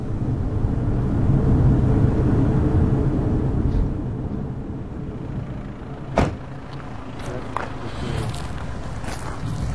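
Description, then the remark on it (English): A car drives up a hill to the Jewish settlement of Tapuach, its engine a steady low rumble heard from inside, easing off slightly partway through, with a sharp knock and a few faint ticks toward the end; no one speaks. “Back in the car now, and just going up the hill to the Jewish settlement, Tapuach.”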